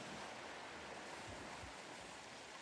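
A soft, continuous wash of water, gentle waves spreading over sand in a tranquil cove in Cornwall, with a steady hiss and faint low swells. No voices, just the quiet, even sound of the water.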